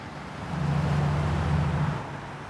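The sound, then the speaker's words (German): Steady roar of city traffic rushing past in front of a municipal high-rise on Blumenstraße in Munich, with a deep engine rumble swelling as a vehicle goes by, then easing off into the broad street wash. “Vor dem städtischen Hochhaus in der Münchner Blumenstraße rauscht der Verkehr.”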